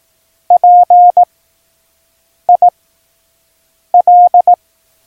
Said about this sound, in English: The first three letters of each task are presented in Morse code.